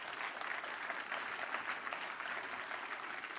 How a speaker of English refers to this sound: Give him one more good clap offering. Come on.